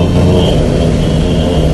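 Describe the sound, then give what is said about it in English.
A person makes a low, rough growl like an animal, loud, holding one continuous rumbling tone throughout with no words spoken. “What is that? You're like growling.”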